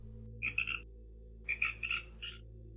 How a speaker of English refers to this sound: Is that a frog? Yep. Sir Friedrich Hopper, at your service. Fred to his friends. Hey, that's the bullfrog from the crime scene photo. The very same.